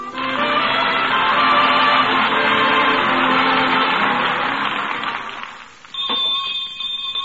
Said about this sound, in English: Well, well, the school bell.